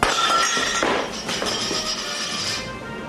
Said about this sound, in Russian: Потир и дискос упали на пол и покатились, звеня.